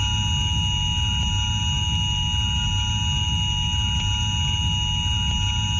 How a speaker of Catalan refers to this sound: Aquest so estrident que ara escoltaran és un simulacre que forma part del sistema d'avís de protecció civil.